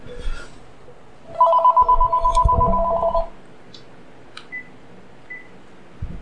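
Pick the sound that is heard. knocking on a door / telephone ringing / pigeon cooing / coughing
telephone ringing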